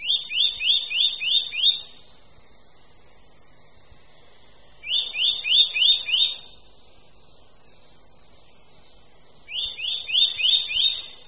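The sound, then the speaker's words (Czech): Eurasian nuthatch calls: three loud bursts of quick, clear, rising whistled notes, each run of about six or seven, separated by short pauses, prominent with no talking. “Hlas brhlíka lesního je velmi nápadný, hlasitý a přehlušuje zpravidla všechny další ptačí hlasy.”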